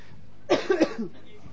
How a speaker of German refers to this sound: Ja, ich habe hin und wieder noch Husten, deswegen nehme ich kein Funkmikro, weil das hängt dann immer irgendwie so vom Mund. Und wenn man dann hustet, dann, ihr habt das ja schon mal mitgekriegt, dann tun einem nachher die Ohren weh.